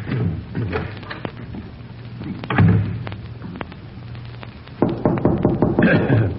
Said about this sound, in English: Yes, that's the door.